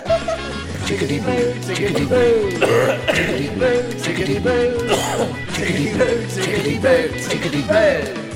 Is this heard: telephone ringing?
no